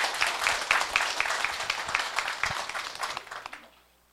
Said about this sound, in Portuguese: E assim, neste momento, eu agradeço essa oportunidade e as palmas para o Senhor Jesus.